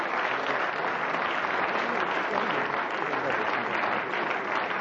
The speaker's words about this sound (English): You can stop clapping now, actually, because I just want to say congratulations to all of them for what they've contributed to the show.